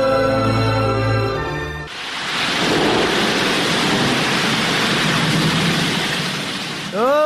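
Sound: rushing flood water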